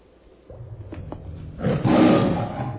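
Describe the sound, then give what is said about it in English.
A big cat named Kitty roars, starting with a low rumbling growl that swells into a loud, sustained roar over the final second or so. No one speaks. “Down, Kitty!”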